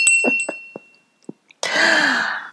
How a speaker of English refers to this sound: Yes, story bell. And again. And again.